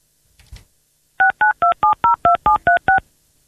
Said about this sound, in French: On va appeler sur un 06-92 qui semble être le numéro du responsable, du patron peut-être de cet hôtel